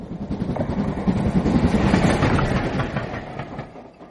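A train rolls along the rails with a steady rumble and a rapid clickety-clack running under it, holding level for the whole stretch before easing slightly at the end.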